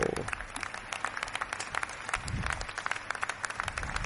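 Steady applause from a gathered crowd at a political press appearance at the Comuns party headquarters fills the whole stretch, a dense, crackling wash of many hands clapping at once, loud, with a faint voice briefly underneath.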